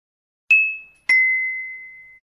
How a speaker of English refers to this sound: He is doing his homework, but the bell rings.